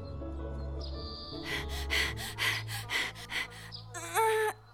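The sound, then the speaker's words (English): A series of noisy, exaggerated deep breaths in and out, fairly loud, coming in rapid bursts over a low background hum, ending with a brief squeaky vocal whine. “Take a deep breath and let go of your worries.”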